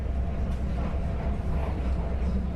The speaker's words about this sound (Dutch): Met de trein reden we dus al even langs Wijster.